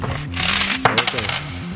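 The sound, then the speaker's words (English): A coin released down chute number 3 of a coin pusher machine clatters down the metal chute and lands on the sliding platform with coins on it, with bright metallic clinks and rattles, clear, over a steady arcade machine hum with electronic tones. “And whenever you feel the time is right, time it well with the sliding platform with the coins on it. Say release the coin.”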